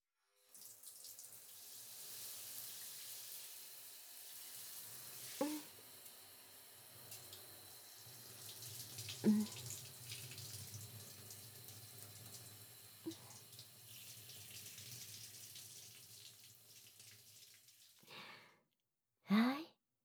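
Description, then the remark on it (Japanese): Shower water runs steadily for nearly twenty seconds, a hissing spray rinsing a person's face clean, with a few brief knocks and sighs breaking through, then it cuts off before a short final breathy sound. “そのまま目をつむって顔を上げていて。シャワーで綺麗にしてあげる。”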